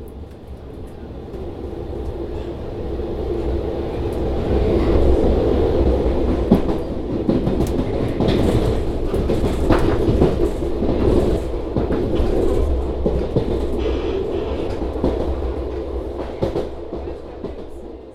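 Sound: train passing on rails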